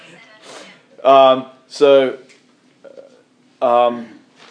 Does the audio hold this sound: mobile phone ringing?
yes